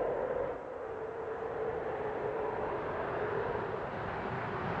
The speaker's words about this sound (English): The sound of the space shuttle touching down, narrated by …. Nearly perfect weather. A record crowd of 2,000 people greeted the shuttle in Cape Canaveral.